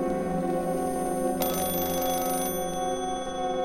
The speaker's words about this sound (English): I was again awoken by the clanging of the phone in the dead of night.